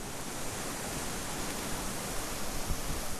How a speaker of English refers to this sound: At three-quarters of a mile, the river begins to roar, and down a steep bank, I stand before a heavy waterfall that dumps out through a choke-hold tower of stone into a wide pool.